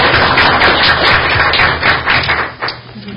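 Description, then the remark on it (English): A crowd claps in a steady, dense round of applause to honor a staff member who is receiving a certificate, loud and continuous for about three seconds before thinning out and fading toward the end, with no talking over it. “So if we can give her a round of applause, we'll get her a certificate.”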